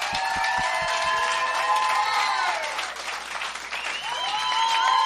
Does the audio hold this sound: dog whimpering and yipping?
no